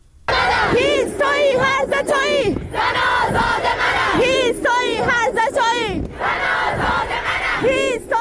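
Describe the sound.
A large crowd of students gathered at the University of Science and Culture in Tehran chants slogans in unison, loud rhythmic shouted phrases repeating in bursts with brief pauses between, voices rising and falling together over a steady roar.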